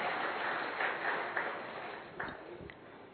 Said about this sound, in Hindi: Sir, आपका भी बहुत बहुत तहे दिल से धन्यवाद। आपने अपनी तरफ से सर्विसेज प्रोवाइड करने के लिए हमें प्रेरणा दी है इस मंच से, थैंक यू सो मच। जोरदार तालियां सर के लिए।